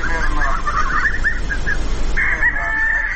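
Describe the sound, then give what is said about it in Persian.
Chickens cluck in a quick run of short, choppy calls, then one bird lets out a longer, drawn-out squawk. The sound is loud and steady, with no talking. “شاید تخم مرغ هدف اصلی نباشد، اما مرغ ها به حیث حیوانات خانگی نگهداری می شوند، حتی به جای سگ یا پشک هم که باشد.”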